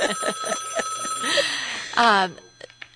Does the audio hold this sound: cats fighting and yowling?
no